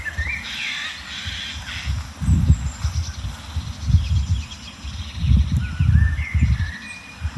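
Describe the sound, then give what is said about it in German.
A Eurasian jay gives harsh, rasping calls, with thinner bird chirps scattered through and low gusty wind rumbling underneath. “Also jetzt kamen schon vier kleine Vögel aus der Ecke geschossen, von der der Eichelhäher ruft.”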